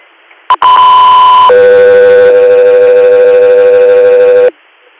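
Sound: radio dispatch alert tones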